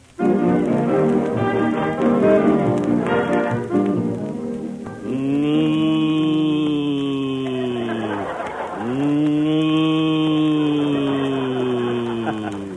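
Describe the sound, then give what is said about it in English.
After a brief stretch of busy, layered sound, announcer Don Wilson lets out two long, loud mooing calls in imitation of a cow, each drawn out for several seconds with a low, bending pitch, in the Western drama sketch Buck Benny Rides Again. “It was Don Wilson, folks, just an old cow ham.”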